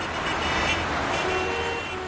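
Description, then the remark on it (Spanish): Steady, dense city traffic at the Plaza de España in Valladolid fills the scene with a constant wash of engine and road noise, while a car horn sounds partway through, sustained above the rumble. “Hay días donde solo es un lugar de paso, un cruce de caminos entre prisas, autobuses y relojes.”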